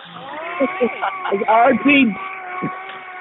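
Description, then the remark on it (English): A voice imitates the beeps of the robot droid R2D2, a quick run of warbling chirps and rising whistles, fairly loud, with a thin, phone-like tone and steady background hum. “R2D2. It's R2D2.”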